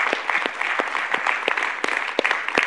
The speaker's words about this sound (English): How amazing is it that God takes care of his people? That is something to clap about.